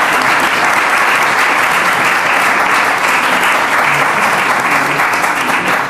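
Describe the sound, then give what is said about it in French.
A crowd applauds steadily, a dense, even wash of many hands clapping at a constant loud level for the full six seconds without breaks or voices standing out. “Je vous applaudis, merci.”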